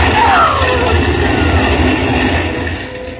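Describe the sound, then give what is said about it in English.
A fire engine arrives with a loud, steady rumble of its heavy motor, a brief rising wail showing early on, and the roar easing slightly toward the end. “Oh, and here comes the fire engine.”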